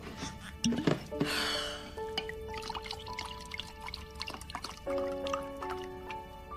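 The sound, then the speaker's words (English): Red wine is poured into a wine glass, a short gurgling splash followed by faint drips and the glass's thin ringing tones, with no one speaking. “She slides over a bottle of wine and a wine glass.”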